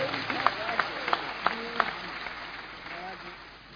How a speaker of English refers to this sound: Come on, clap for Jesus.